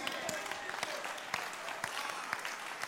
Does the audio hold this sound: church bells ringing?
no